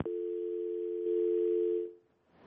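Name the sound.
phone dial tone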